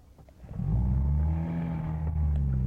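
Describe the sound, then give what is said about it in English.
A boat's outboard motor catches after a brief quiet moment and settles into a loud, steady droning hum with a low rumbling throb, running continuously with no voices, in a misty harbour. “About halfway across the stretch to the boat, the outboard motor failed temporarily, I'm glad to say, and we set off towards the Peterhead, which was lying in the mist by the side of one of the in the lee of one of the little islands in the harbour.”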